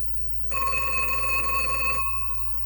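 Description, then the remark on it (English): A party-line telephone bell rings in one steady burst lasting about a second and a half, bright and metallic with a rapid trill, with low background hum before and after; it is the ring for the speaker's daughter. “That's my daughter's ringing. This ring from hers ringing. And we on the party line.”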